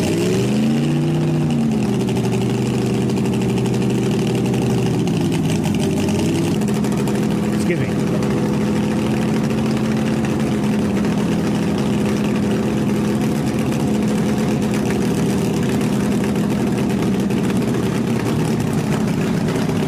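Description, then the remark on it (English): A land speed record car's engine roars loudly, its pitch sweeping up and down early on before settling into a steady, sustained drone for the rest of the run. “This is not that run, but we have a run.”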